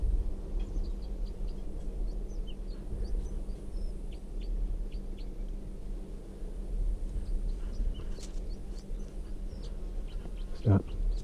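red crossbill song

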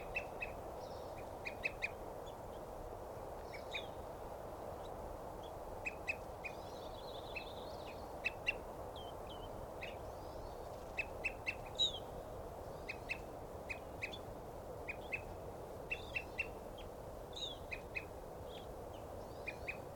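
evening grosbeak calling

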